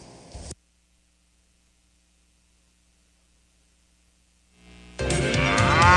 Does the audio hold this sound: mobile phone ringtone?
no